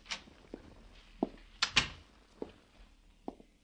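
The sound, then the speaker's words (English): A door opens at the offices of Satire magazine with a sharp metallic latch click and a heavier clunk near the middle, surrounded by a few soft, scattered thumps like footsteps. “They opened doors for me and supplied long cigarettes and short coffees until the editor could see me.”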